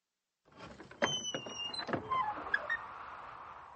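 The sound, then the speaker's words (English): A door creaks open with a few sharp clicks and a drawn-out, squeaky creak, followed by a soft rush of wind on a windy, sunny day. It's fairly loud, with no voices. “Gregory opened the door.”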